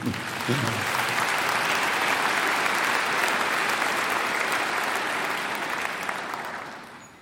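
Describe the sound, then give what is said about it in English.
An audience applauds during a sermon, clapping to show they have received Jesus, a dense steady patter of many hands clapping for about seven seconds before tapering off slightly at the end. “You can clap if you have.”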